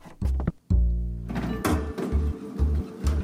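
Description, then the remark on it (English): Elevator doors being forced open: a heavy thunk, a long low grinding strain, then a steady run of dull, booming knocks, loud, with no voices. “get out here and help me open these elevator doors.”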